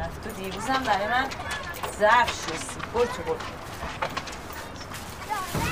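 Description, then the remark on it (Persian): A female police officer's footsteps as she gets out of a car parked in front of a house and walks toward another woman at a steady pace, heard under a speaking voice. “مأمور خانم از ماشین پیاده میشه و سمت شیرین میره.”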